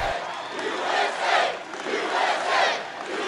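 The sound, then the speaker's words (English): A large crowd cheers and chants at a rally, a dense roar of many voices swelling rhythmically in loud waves, with no single speaker standing out. “Wow, what a crowd.”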